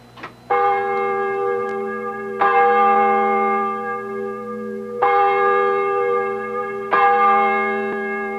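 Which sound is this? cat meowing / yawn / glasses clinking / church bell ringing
church bell ringing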